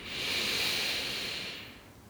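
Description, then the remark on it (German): A single slow, deep inhale into the belly, a soft airy rush that swells over about two seconds and then tapers off, quiet with no talking. “Und wir atmen gemeinsam wieder ganz, ganz tief in den Bauch ein.”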